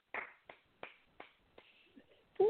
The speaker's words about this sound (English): Clap if you believe it.